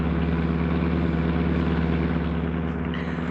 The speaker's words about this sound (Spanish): La autopista detiene la sucesión de carros que esperan la señal para lanzarse ansiosos hacia la calle estrecha del viejo centro de esta ciudad.